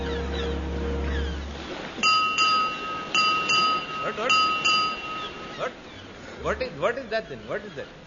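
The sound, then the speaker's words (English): A ship's bell strikes six bells in quick paired strikes, bright and ringing, after a deep horn blast; the chimes fade and voices begin talking. “What is that? Six bells?”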